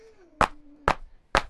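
Three firm, evenly spaced knocks of a fist on a laboratory door, each a sharp thud with a brief rattle, over a faint low hum.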